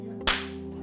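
A single loud hand clap cracks out sharply, then fades over a fraction of a second, with a steady low hum running underneath throughout.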